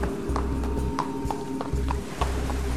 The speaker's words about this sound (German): Da ist wieder das Pferd. Das Geräusch der Pferdehufe muss durch eine Felsspalte in die Höhle gedrungen sein. Da! Ein schwarzes Pferd! Ohne Reiter!